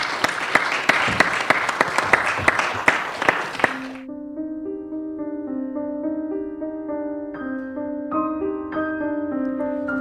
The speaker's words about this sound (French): Merci beaucoup, on peut l'applaudir.